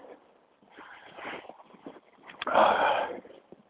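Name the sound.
sniffing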